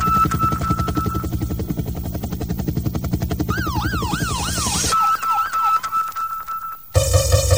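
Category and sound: vehicle, helicopter rotor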